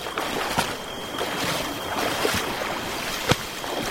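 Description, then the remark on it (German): Water rushes steadily past an overcrowded boat carrying about 80 people under way, a dense, even wash with a faint high whine and a few sharp knocks against the hull; no voices. “Jetzt sind wir ja endlich im Boot, wenigstens.”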